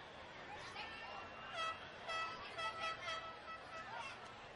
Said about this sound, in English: Somebody with the air horn trying to start some chanting here.